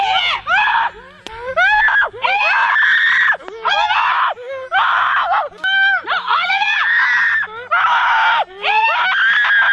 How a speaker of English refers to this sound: And she's screaming bloody murder as she's getting marshmallows shoved in her mouth.